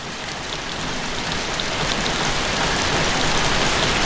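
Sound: passing rain shower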